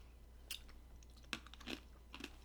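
Close-up ASMR-style chewing, with four or five soft, crunchy bites at an uneven pace over a faint low hum, with no talking.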